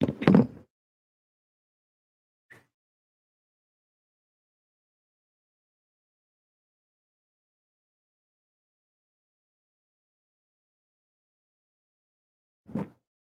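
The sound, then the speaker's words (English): A blue suede Vans shoe being pulled off: a short scuffing rustle, a faint tap, then a long quiet stretch before another brief soft thump. Nobody speaks. “I'm going to take one shoe off.”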